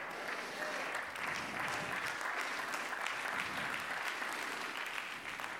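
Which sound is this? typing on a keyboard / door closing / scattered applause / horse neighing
scattered applause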